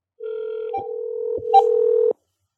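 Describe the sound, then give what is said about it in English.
A telephone line hums with a steady dial tone, broken by a few quick keypad beeps and clicks as a number is dialed, then cuts off abruptly. No one speaks. “I'll call on his phone, and then I'll keep you on the phone”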